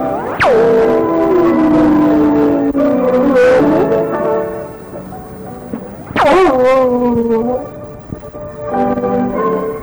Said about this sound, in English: There was no Harold Angel singing, that was our Puerto Rican dog Pedal, just singing a Merry Christmas to you.